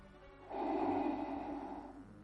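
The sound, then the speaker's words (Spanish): A single long, hissing mechanical respirator breath rises abruptly and holds steady for over a second before easing off, moderately loud, with no talking, heard at an exhibition of pieces from a film saga. “Y esta es la respiración de alguien que seguro te hace temer muchísimo.”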